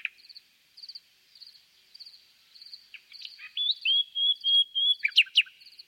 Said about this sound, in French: Et quand on parle du chant, on ne peut pas oublier les oiseaux, puisque les oiseaux sont quand même les plus grands chanteurs. De nous tous, c'est les champions du monde.